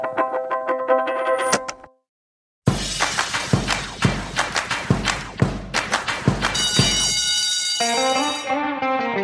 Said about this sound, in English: That bell can only mean one thing. It's time for Planet Money Summer School.